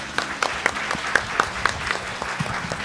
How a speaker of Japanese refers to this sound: 証券コード4598東証グロース上場、デルタフライファーマ代表取締役社長の江島清さんです。皆様拍手でお迎えください。